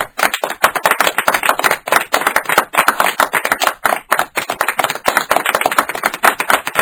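Loud, sustained audience applause for a guest being introduced on a show: many hands clapping in a dense, crackling wash that stays steady for several seconds, with no voices over it.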